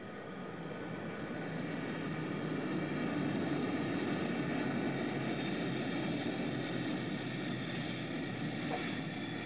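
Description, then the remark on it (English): An airplane landing on the runway at New Jerusalem's Victory Field: a loud, steady roar of jet engines with a whining high hum, continuous throughout, no voices. “The plane is landing now, approaching the runway.”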